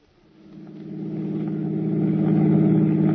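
A car engine hums steadily, its low rumble swelling as the vehicle picks up speed and keeps rolling along the road toward the George Washington toll bridge across the Hudson River.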